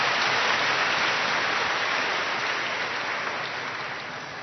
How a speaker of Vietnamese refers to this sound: Chúng ta cho một tràng pháo tay chào đón ca sĩ